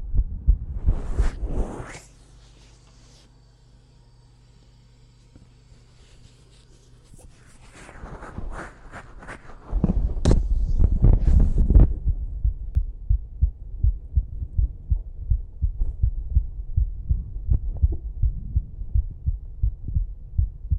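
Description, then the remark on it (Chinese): A fast, steady heartbeat thumps loud through the second half, its low pulses coming in quick succession, after some earlier rustling and a quieter stretch. “我们血族的人不仅心跳快，动作也快。”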